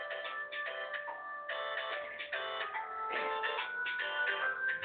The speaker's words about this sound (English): I guess my phone is going off. We'll give it just a second so we don't have to worry about it.